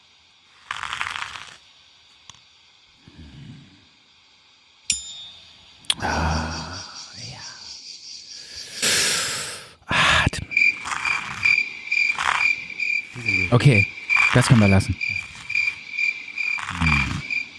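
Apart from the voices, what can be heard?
cricket chirping sound effect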